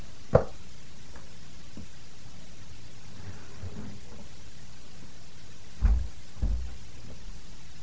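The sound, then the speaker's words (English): A door is shut with a couple of dull thumps, one sharp knock early on and a heavier bump near the end, against a steady low hiss with no voices. “And hold on, I got to close the door.”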